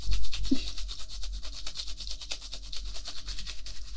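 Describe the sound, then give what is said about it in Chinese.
Steady, rapid scrubbing strokes from a long soft-bristled brush pushed into a dead woman's esophagus and stomach, a dense rhythmic rasping with bright hissy texture that repeats in quick pulses throughout, fairly loud, no voices. “不好意思啊，姐姐，用刷子插进你的食道里，捅进你的胃里，用力的刷，应该挺难受的吧？”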